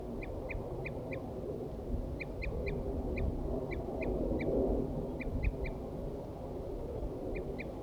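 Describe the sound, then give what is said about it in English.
Wild birds, mostly males, give short, sharp, fairly high-pitched calls in quick bursts of three or four as they attack, repeating throughout over a steady, loud low rumble of background noise. No one speaks. “The recording I had left 4-3 on the stump, and I got the wild birds now attacking him.”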